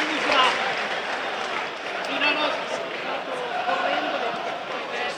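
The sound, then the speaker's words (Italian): Steady stadium crowd applause at a football match against Verona, for Pairetto, who has recovered after an accidental blow to the jaw, fills the whole stretch, a dense wash of clapping that swells slightly in places, with indistinct voices mixed into the noise. “adesso vanno a sentire l'applauso dello stadio per Pairetto che si è ripreso.”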